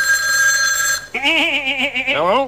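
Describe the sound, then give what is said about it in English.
A bright, steady bell rings for about a second, then gives way to a loud, warbling cry with a wavering pitch that rises and falls. “This killer lamb has been trained to attack at the sound of a bell.”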